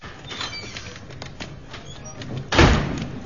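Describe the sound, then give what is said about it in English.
A door handled: light clicks and rattles, then a solid, heavy thump as it swings shut, with a short rumbling tail. No voices. “I just walked out that door”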